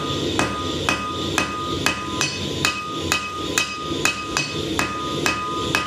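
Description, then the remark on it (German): A blacksmith hammers glowing hot metal on an anvil in his forge in a steady rhythm, each sharp ringing strike repeating about every half second over the constant roaring rumble of a gas furnace, with no one speaking. “Der donnernde Gasofen und das glühende Metall auf dem Amboss.”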